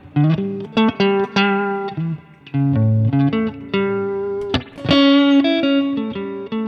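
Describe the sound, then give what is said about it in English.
A distorted electric guitar plays a short melodic phrase of sustained, bending notes, loud, with a brighter accented note near the end and no talking; the notes are taken from a scale to target chord tones. “You're going to be taking notes out of it. You're going to be, say, targeting these chord tones.”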